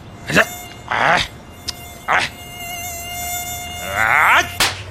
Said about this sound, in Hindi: ये अपने एरिया में कितने मच्छर हो गए रे। हाँ दादा, इसलिए तो सरकार भी कहती है कहीं भी पानी जमा ना होने दे, उसमें मच्छर हो सकते हैं। हाँ बिल्कुल सही, और रात में तो मेरी नींद खराब कर रखी है मच्छरों ने।